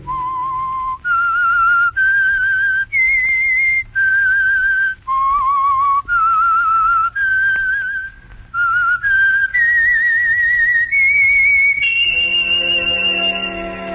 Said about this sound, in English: Let that whistle be your signal for the Signal Oil program, The Whistler, each Sunday night at the same time.